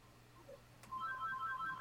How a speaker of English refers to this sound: And someone's got a phone. How about that? Someone's got phones. Can someone silence their phone, please?